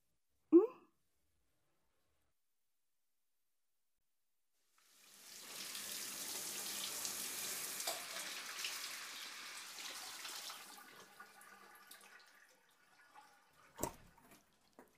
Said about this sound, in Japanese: おはよう。珍しいね、朝からシャワー浴びて。